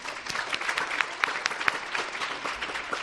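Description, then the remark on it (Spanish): Steady applause from an audience of people of different ages at the 12th children's short-story contest between schools, held at the Ferial Plaza shopping centre in Guadalajara: a dense wash of many hands clapping with sharper individual claps popping out, sustained at even loudness throughout with no talking. “Pues aquí hay excelentes personas de distintas edades, un fuerte aplauso.”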